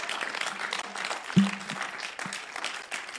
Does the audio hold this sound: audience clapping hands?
yes